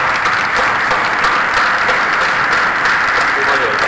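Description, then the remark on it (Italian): Steady applause from a crowd, a dense even wash of many hands clapping at once, loud and unbroken for several seconds with no voices standing out. “Scusa, abbiamo un applauso.”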